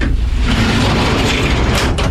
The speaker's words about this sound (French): Tiroir ouvert.